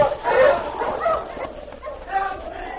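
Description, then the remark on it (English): Several sled huskies bark and yip excitedly in an overlapping, uneven chorus as they are urged on to pull a sled up to a cabin, with high, sharp yelps and a few whining cries running throughout the short stretch. “Mush, you huskies, mush!”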